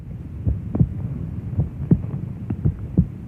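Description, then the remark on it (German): A muffled, low heartbeat of a mother thumps steadily, its soft paired beats repeating about once a second over a warm, droning hum, dull as if heard from inside the body. “Noch bevor wir auf die Welt kommen, hören wir ihn, den Herzschlag der Mutter.”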